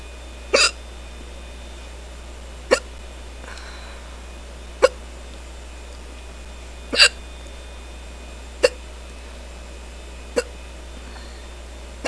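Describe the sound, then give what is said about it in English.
A person hiccups seven times at a steady rhythm, roughly every two seconds, each one a short sharp gulp, with quiet background hum between them and no talking. “I'm surprised I got the hiccups so quickly this time.”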